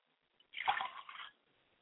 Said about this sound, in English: Libation. I like to pour libation to Yamanja, my mother's spirit, and I say Ashe. I like to pour libations to my father's spirit, and I say Ashe.